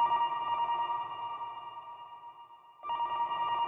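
telephone ringing

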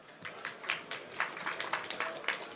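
audience applause

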